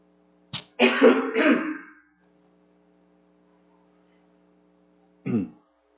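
A person clears their throat with a short catch and then a rough, harsh rasp, followed after a few quiet seconds by one more brief throat-clearing cough. No speech.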